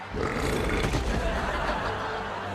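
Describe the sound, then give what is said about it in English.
A long, loud burp rumbles out, sustained and gravelly for over two seconds with no break, standing alone without any talking around it. “I have awesome power burps.”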